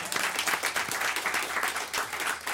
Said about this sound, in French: Ben il y a des gens qui applaudissent.